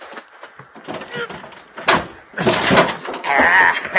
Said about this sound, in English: In the baggage compartment. I go pull the door open. By golly, she's stuck hard.